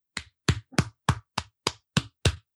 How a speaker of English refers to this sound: It sounds pathetic when it's one person clapping. What was that sound at the end? It sounded like there was a fart noise, too. My butt is nowhere near the mic, so I don't think it was the fart. There was like an air pocket in your hands, I guess.